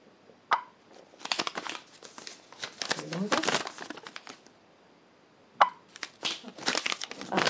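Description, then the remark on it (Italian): A banknote is crinkled and rustled at a certain distance from a phone running an app, in irregular bursts of dry, papery crackling, loud and bright, opened and closed by two sharp clicks, with quiet gaps between flurries. “Beh, sentite questo suono, quindi prendiamo una valuta, questa qua, ecco, la mettiamo ad una certa distanza del telefono.”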